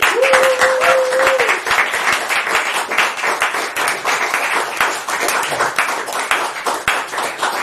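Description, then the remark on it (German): A crowd applauds loudly and steadily for the whole stretch, dense clapping with sharp individual claps poking through, and a brief steady whistle-like tone near the start. “Nochmal einen Riesenapplaus”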